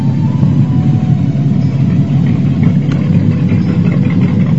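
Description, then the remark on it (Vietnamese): A ship's heavy engine chugs into motion, droning and rumbling steadily, a dense low churning throb that stays loud and unbroken throughout, with faint mechanical rattles layered on top and no voices. “Mấy người phu tàu đã bắt đầu mở đòi, máy tàu đã chuyển động xình xịch, làm át cả những tiếng nói chuyện ồn ào của hành khách.”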